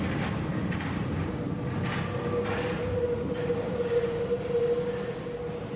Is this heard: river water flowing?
no